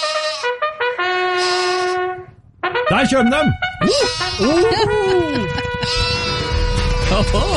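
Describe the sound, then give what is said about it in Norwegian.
Sheep bleat repeatedly in a wavering, overlapping chorus, loud, as a bucket is rattled to see which sheep comes first, while people talk over them and other animal calls rise and fall in the background. “Ok, la oss sette I gang. Ok. Sau RS.”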